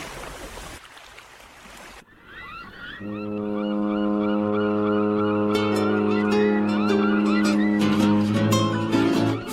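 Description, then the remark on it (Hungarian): A deep ship's horn sounds a long, steady blast from an approaching ship after a few seconds of rushing sea noise, holding loud to the end with some fainter higher calls above it. “Már közeledik a hajó, halljátok ti is a tenger zúgását s a hajó kürtjét.”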